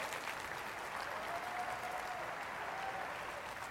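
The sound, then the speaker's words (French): An audience applauding God during a church message on divine healing, a dense wash of many hands clapping at an even, moderately loud level throughout, with no voices standing out. “Ceux qui le croient, s'il vous plaît, voulez-vous applaudir un Dieu qui ne change pas?”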